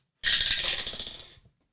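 dice being rolled

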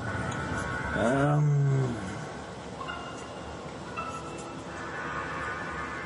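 cat growling

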